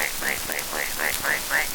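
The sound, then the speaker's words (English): A voice imitates the pigs on a farm with about seven quick, upward-sliding oinks in a steady rhythm, fairly high-pitched and even in loudness, over a faint hiss. “The pigs join the chorus with a...”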